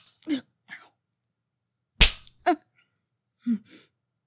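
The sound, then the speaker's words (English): A single sharp open-hand slap to a face, loud, lands mid-clip amid brief breathy gasps and short vocal sounds, with no clear speech. “You like how it stings when I slap you like that?”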